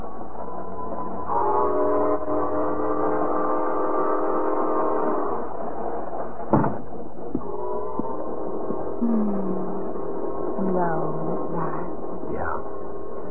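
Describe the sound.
A passenger train bound for Detroit pulls away from a depot with long, steady whistle blasts, a sharp clank of cars midway, then more sustained whistling over a low rumbling rail background, with indistinct voices faintly underneath.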